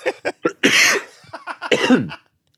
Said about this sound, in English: Sick. That was me saying hi. Hello. Yeah. Hello. Was that cough? Mm-hmm. Our greeting is now just expectorating something.